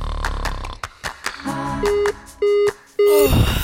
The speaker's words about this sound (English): This is it. My alarm just went off.